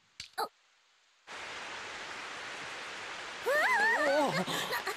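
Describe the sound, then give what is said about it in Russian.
Steady, hissing rain begins suddenly after a brief quiet start and keeps pouring evenly, with a voice speaking over it toward the end. “Дождь пошел.”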